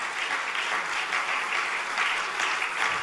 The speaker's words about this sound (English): Clap your hands to the Lord and thank God.